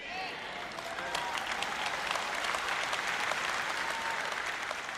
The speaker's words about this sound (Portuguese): Eu não sei se você está batendo palmas só para me fazer feliz ou se realmente entendeu.